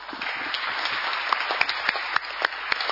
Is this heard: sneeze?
no